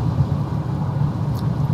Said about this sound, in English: Alright, I'm slowing down again here, but I didn't really speed up from the last slowdown, so as you might have heard, a bit of traffic coming around the side here.